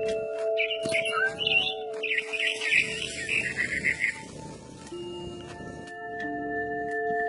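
A frightened bird chirps in a quick, fluttering series of high notes for a few seconds over a low background hum and faint murmuring voices.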